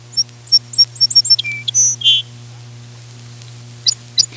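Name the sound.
song sparrow singing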